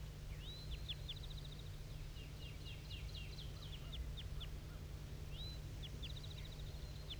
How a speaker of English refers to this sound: So recording at 7:34, still hearing tons of flight calls coming from this bird.